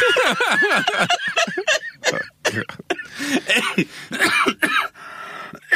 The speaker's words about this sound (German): Entschuldigung mit dem Husten